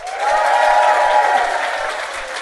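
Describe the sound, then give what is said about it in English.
An audience at a live show bursts into a sustained round of applause to show they have heard the hosts' show before, dense clapping that stays loud and steady throughout before easing slightly at the end. “Give me a round of applause if you've ever heard our podcast Do Go On before.”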